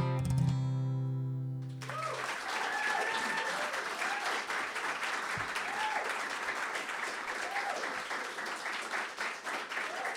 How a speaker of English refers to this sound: Well, they liked that one. Oh, they did. I think they liked all of them. How about another round of applause